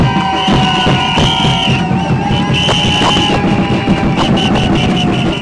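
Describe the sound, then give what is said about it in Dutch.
Loud, unbroken din of a crowd at a noise protest, with sustained shrill whistles and repeated metallic clangs of pans being banged, all layered into a dense cacophony for the whole stretch. “Begin je pannen, je fluiten, alles wat je hebt lawaai te maken, laat je stem horen, want dit mag niet meer gebeuren.”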